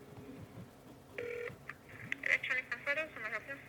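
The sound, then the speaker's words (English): A short burst of phone keypad dialing tones, clear, followed by a string of quicker electronic beeps as the call connects, with a voice talking softly before and under them; someone dialing on their phone to call an electronics department. “Okay, I will just grab my phone here. Give him a shout.”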